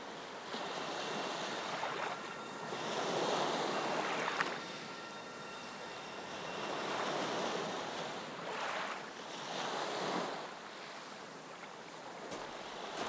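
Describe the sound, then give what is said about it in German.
Waves wash onto a snow-covered Baltic Sea beach in winter in slow, rolling surges, each swelling into a broad hiss and then easing back, with a steady wind rushing underneath. No one speaks. “Ich gehe über den schneebedeckten Strand immer weiter am Meer entlang und genieße die winterliche Stimmung an der Ostsee.”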